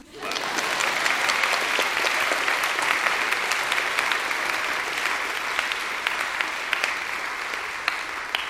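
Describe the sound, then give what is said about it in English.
An audience at an EMU community gathering applauds steadily for several seconds to thank Residence Life staff for their contributions, a dense, even wash of many hands clapping at once, with a few sharper individual claps standing out from the crowd. “Clap. Clap.”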